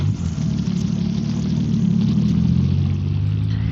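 A car engine revs and accelerates as the car drives quickly away along a garden path, with a steady, heavy low rumble that stays loud throughout, with no voices.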